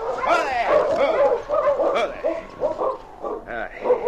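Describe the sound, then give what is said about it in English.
Several sled dogs of a dog team bark and whine in thick snowfall near a small cabin at the edge of Deer Creek, their yips and whimpers overlapping in a busy, continuous chorus that rises and falls for a few seconds. “nobody saw the two-man and dog team as they plodded through the thick snowfall.”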